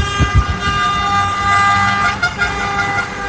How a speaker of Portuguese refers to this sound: Ficamos no local até o fim da partida. Na saída, a comemoração foi com buzinaços.